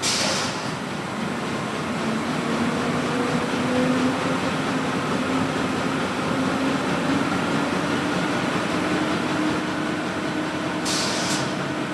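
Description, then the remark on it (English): A newspaper printing press in Lufkin, Texas starting up: a loud, steady mechanical roar with a low humming tone that slowly rises in pitch as it gains speed, with short hissing bursts at the start and end. “And my sound is the sound of a newspaper press starting up.”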